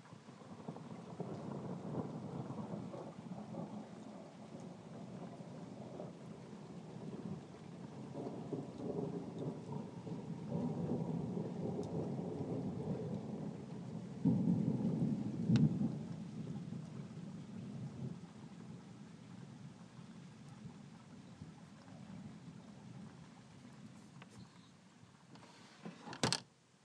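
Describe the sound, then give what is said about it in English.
A low, rolling rumble of distant thunder from a storm moving away to the south swells and fades over a steady hiss of rain, with a few sharper cracks near the end, heard through an open window. “It is about to thunder again. Open the window again.”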